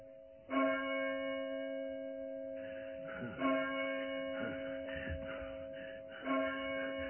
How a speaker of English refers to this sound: The Windsor bell has struck 12. The minute draws on.